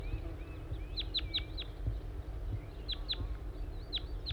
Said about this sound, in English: I think I hear a wild bird again. Stop. Yes, I see a wild crossbill. It appears to be a small race male. And another bird with it.